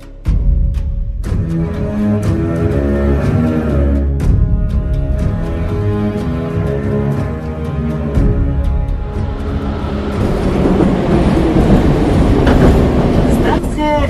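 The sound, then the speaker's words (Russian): A metro train rumbles as it pulls into Taganskaya station, its motors whining in steady tones over loud, continuous track noise, with a few sharp clacks of wheels over rail joints early on. “А мы на Таганской.”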